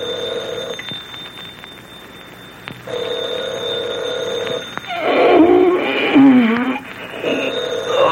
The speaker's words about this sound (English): Phone. Stir, Markheim. Stir. just when I was relaxing so nicely. Answer it, Markheim. Answer it. Oh, that instrument is a minister of peace.